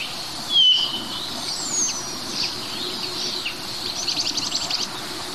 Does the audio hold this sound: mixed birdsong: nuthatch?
yes